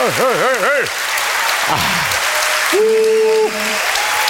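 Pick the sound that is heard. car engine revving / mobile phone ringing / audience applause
audience applause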